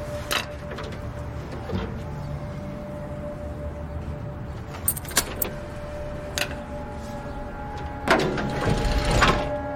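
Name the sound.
keys jangling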